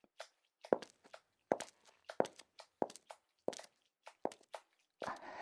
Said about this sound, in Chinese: 真的走了，你听他的脚步声。